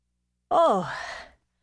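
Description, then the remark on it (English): A single voiced howl, like a person imitating gusting wind: it swoops down in pitch, then rises and trails off over about a second, fairly loud with no other sounds. “It sure is windy! I wish this wind would stop so that I could tell you about the sound wuh.”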